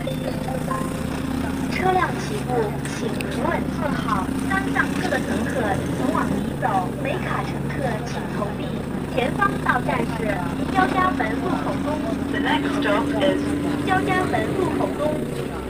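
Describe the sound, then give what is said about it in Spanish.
Inside a moving city bus in Beijing, China: a steady low engine drone runs throughout while several passengers chatter continuously, their voices overlapping at moderate loudness. “Por ejemplo, lo que se escucha en un autobús de la ciudad de Beijing bien puede propiciarnos el comienzo de un programa.”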